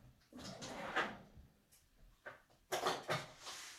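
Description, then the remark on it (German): The left kitchen drawer, holding scissors, scrapes open with a rattle of contents, then slides shut again a couple of seconds later, moderately quiet, with no talking. “Hier in der linken Schublade sind Scheren.”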